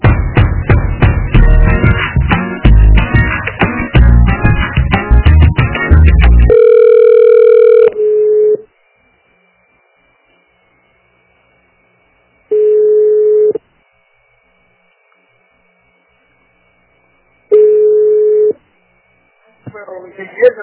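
A phone line ringing during a call transfer: after a short burst of busy, crowded sound, a steady ringback tone sounds in roughly one-second pulses spaced several seconds apart, clear.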